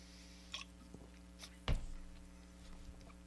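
A sip of beer: a few small wet mouth clicks, then one sharper, louder slurp partway through that trails off. Otherwise quiet, with no talking.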